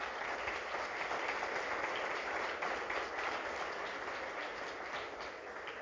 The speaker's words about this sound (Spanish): Bienvenidos, démosle un aplauso de bienvenida.